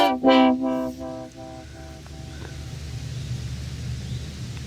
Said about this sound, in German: Und auch die großen Vögelein. Das Flugzeuglein, das da über mir hinwegfliegt, kann man wahrscheinlich auch hören.